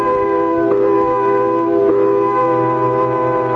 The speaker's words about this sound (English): Came quitting time, there was a whistle. Loud enough to buckle your knees and send waves up your spine.